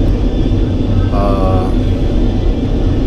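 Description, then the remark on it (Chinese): A steady, droning roar of an airplane cabin in flight over the Pacific Ocean, en route to Auckland, New Zealand, fills the whole recording at an even loudness, with a faint voice briefly surfacing above the hum partway through. “现在是在太平洋的上空，我们还有6个小时就到奥克兰了。”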